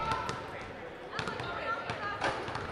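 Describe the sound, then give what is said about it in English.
Basketballs bounce on a hardwood floor and glass backboard during girls' basketball at Grand Rapids High School and Itasca Community College: a steady series of sharp, irregular thumps, some overlapping, over a constant murmur of indistinct voices. “Basketballs bouncing off the hardwood floor and glass backboard.”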